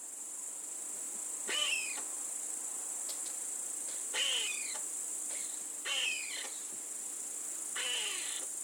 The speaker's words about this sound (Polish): W letnie noce, w lasach liściastych i mieszanych, można usłyszeć tajemnicze ni to świsty, piski, wysokie chrząkania. Czasem mogą przechodzić w takie jakby kasłanie. To popielice szare, których głosu nie da się pomylić z żadnym innym polskim gatunkiem